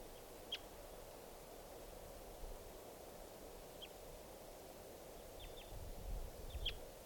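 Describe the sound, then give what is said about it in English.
A few short, high chirps of wild birds coming down come scattered and irregular, some in quick pairs, over a steady hiss and low rumble of background noise, with no one talking. “These are the calls of the wild birds who are coming down.”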